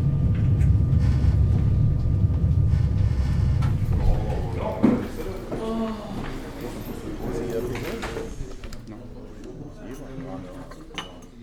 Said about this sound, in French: Nous vous demandons pour votre sécurité de bien attendre l'arrêt complet du train à Caen avant d'ouvrir les portes de descente.